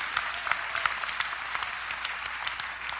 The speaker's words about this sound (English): Now, you all clap, man. You understand?